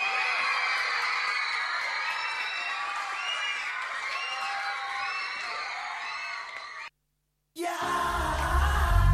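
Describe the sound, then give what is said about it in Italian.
A crowd of children shouting and cheering together, loud and continuous with excited whoops rising over the din, a brief silent break near the end, then the noisy cheering resumes. “Di bambini, bellissimo.”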